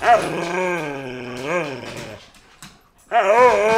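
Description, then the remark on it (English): A female dog named Luna growls and whimpers in a long, wavering, drawn-out vocalization, falls quiet for a moment, then starts up again just as loudly. “She literally is never quiet. She loves to eat garbage.”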